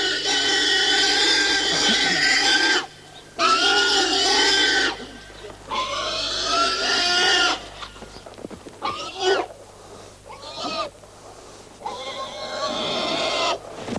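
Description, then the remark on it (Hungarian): A pig at a farm slaughter squeals loudly in long, harsh, repeated shrieks, broken by short pauses, with shorter frantic squeals toward the end. “Elszalad a disznó, kergethetjük egész nap.”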